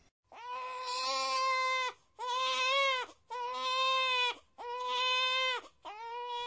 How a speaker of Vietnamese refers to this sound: Ồ, tiếng khóc oe oe của trẻ sơ sinh. Vâng, trong tiếng Nhật, từ để diễn tả âm thanh này là onya, onya.